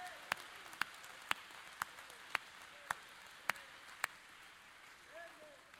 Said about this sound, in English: Oh, let's clap our hands and praise the Lord.